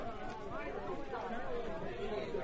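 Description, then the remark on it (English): A steady wash of overlapping voices from a crowd, a busy murmur of many people talking at once with no single voice standing out, holding an even loudness throughout. “If I can just get through the crowd, I'll be there soon.”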